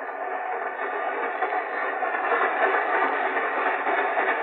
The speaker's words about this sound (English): I detest train rides.